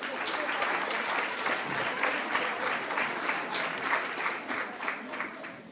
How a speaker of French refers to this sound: Oui, vous pouvez les applaudir très fort s'il vous plaît.